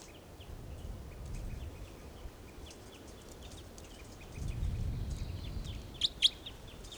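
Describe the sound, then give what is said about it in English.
Several birds, including a toucan nearby, call steadily, with rapid high chirps scattered throughout, then two sharp, louder calls ring out near the end, over a low rumbling outdoor background. “Birds are calling a toucan nearby.”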